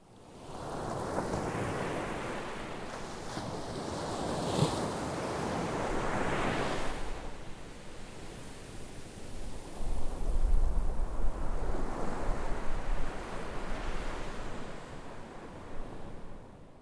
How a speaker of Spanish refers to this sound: ¿Pudiste adivinar el sonido sorpresa? El sonido de hoy fue el de las olas del mar.